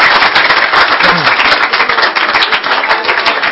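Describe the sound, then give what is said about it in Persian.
An audience claps loudly and continuously at a celebration of the Prophet's birthday, a dense crackle of many overlapping hand claps that holds a steady level for the whole few seconds. “یه کف مرتب به افتخار ایشون، نه به افتخار من بزن.”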